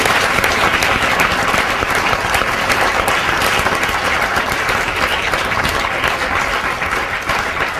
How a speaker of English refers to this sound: So if we could, because she's watching us, give her a round of applause as well. That would be great.